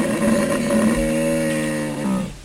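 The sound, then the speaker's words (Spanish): A person makes a long, low, droning grunt in imitation of a hippopotamus, one sustained rumbling call lasting a couple of seconds, fairly loud. “¿Un hipopótamo? Sí.”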